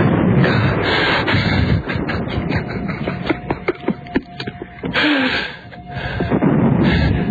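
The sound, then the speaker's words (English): Scattered gunshots crack out in the street downtown, a quick irregular series of sharp pops in the middle stretch, set against a dense, rumbling wash of noise that swells loudly at the start and end. “I can hear it. They're shooting down there.”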